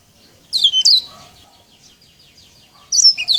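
A green singing finch (yellow-eyed canary) sings bright, high twittering phrases in two short bursts separated by a quiet pause, clear, with no talking.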